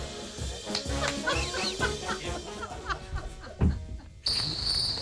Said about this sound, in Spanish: No me pongan los grillos, que os estáis riendo ahí atrás.